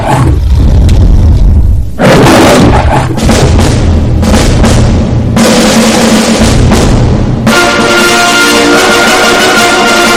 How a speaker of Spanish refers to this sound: Aquí te escuchábamos con el rugido de la metro, que se ha constituido ya en una referencia